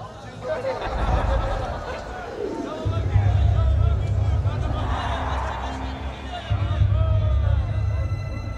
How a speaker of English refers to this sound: I heard his final words even amongst the roar of the crowd.